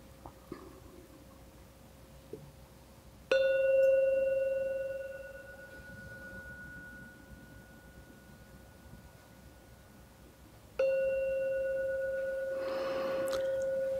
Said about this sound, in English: think we are coming to the end of meditation period. I'll ring the gong, then slowly open your eyes.